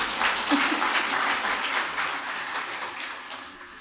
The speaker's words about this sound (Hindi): तो एक बार ताली हो जाए।